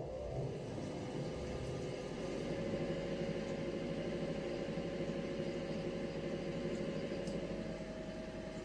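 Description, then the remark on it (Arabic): An engine runs continuously during a combustion test by engineers, with a dense low rumble and mechanical whir, holding an even level throughout with no voices. “صور غاية في الإثارة، تلك التي تجسد عملية الاحتراق داخل المحرك.”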